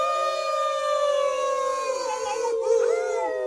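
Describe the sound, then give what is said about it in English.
Several people in a radio studio howl together like dogs, a loud sustained chorus of overlapping wavering tones that slide and bend over a few seconds, full, with no speech. “So if everybody in the room howls.”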